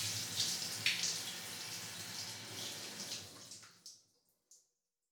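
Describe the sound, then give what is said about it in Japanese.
Steady running water splashes and rinses off all the soap foam for about four seconds, then cuts off abruptly, leaving a couple of faint drips in the quiet. “うん、泡全部流し終わったかな。”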